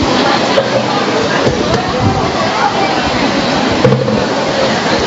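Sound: rain falling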